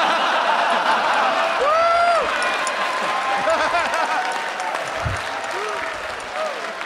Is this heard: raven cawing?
no